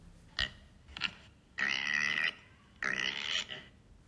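Five piglets in a small, dark, cold pigsty grunt: two short, sharp grunts, then two longer, rasping squeal-like grunts, each about half a second to a second long, with brief pauses in between.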